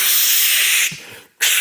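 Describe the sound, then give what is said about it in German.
A voice imitates a long spray of deodorant with a loud, steady hiss lasting almost a second, then breaks off briefly before the hissing starts again. “Ich finde zum Beispiel, allein das Auftragen von Sprühdeo ist zwischen Männern und Frauen schon ein unterschiedliches Ding.”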